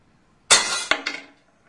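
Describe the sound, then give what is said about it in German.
A hard, bright strike sends a small weight clattering down, bouncing twice with a ringing, metallic jangle that fades within a second. Loud, with no voices. “Wo ist das denn hingefallen, Sören? Das Gewicht. Ja, mein Gott. Jetzt hast du da so doll drauf gehauen.”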